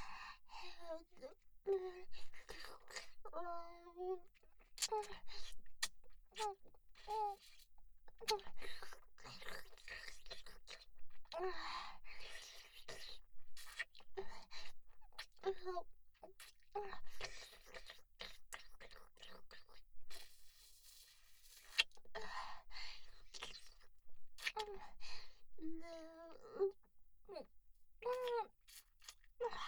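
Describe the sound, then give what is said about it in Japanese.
Wet mouth sounds: soft munching done without letting the teeth touch, and quick tongue clicks and flicks in an uneven rhythm, interspersed with quiet whispering and breathy vocal murmurs. “歯を当てないようにもぐもぐして、君の清掃を舌でコリって弾いちゃうの。”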